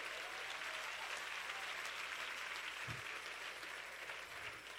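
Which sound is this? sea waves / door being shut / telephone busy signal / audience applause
audience applause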